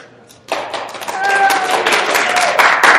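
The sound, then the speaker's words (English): A group of people breaks into applause after a brief quiet moment, the dense, rapid clapping holding steady and loud to the end, with a few high whoops rising over it. “They can clap. You can't clap. Well, I need them to clap.”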